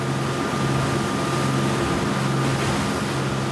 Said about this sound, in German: Zügig pflügt das kleine Charterboot durch die bleigrauen Atlantikwellen. Es ist noch früh an diesem kalten, windigen Morgen auf See.